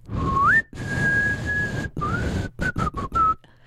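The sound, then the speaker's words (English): Someone whistles a short tune: a rising note swelling into a long held tone, then a run of quick, choppy notes with brief gaps, over a faint background hiss. “I can whistle now that I've got this dental problem.”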